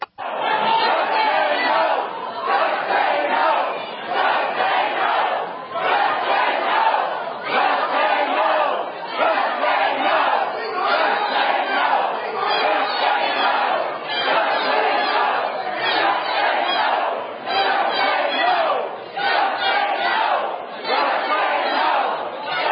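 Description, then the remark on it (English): Protesters at a meeting in Austin shout and yell over one another, shouting down health care, in a loud, sustained roar swelling in rough rhythmic waves for the whole stretch without letting up, no single voice standing out. “So the crowd or the protesters really exploded, shouting down the whole idea of health care and what's being thrown out there in Austin.”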